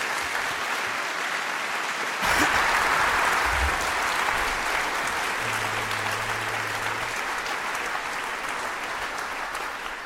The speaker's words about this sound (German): Einen großen Applaus an die drei und viel Spaß.